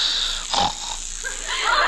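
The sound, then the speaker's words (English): A man snores off key in a rough, uneven snort with a raspy, pig-like wheeze, fairly loud, followed by a thinner breathy tail. “How do you like that? Snores off key.”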